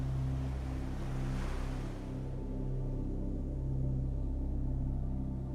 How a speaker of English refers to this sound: Now look up, and all you see is more sand in front of you, but you can hear the ocean.